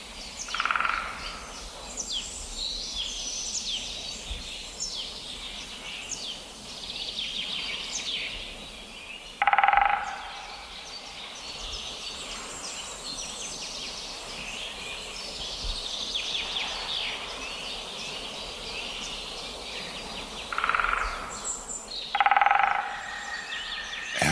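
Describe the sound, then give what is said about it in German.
A great spotted woodpecker drums two brief, rapid courtship rolls in a forest, on a dead branch used as a resonator, about thirteen seconds apart, standing out over a busy background chorus of songbirds. “Das ist kurz an einem toten Ast als Resonanzkörper benutzt. vorgetragenes mechanisches Balz. Gerufe der Spechte. Und das ist so die typische Länge für Buntspecht.”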